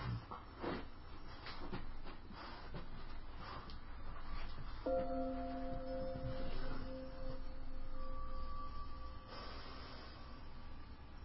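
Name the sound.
tibetan bells ringing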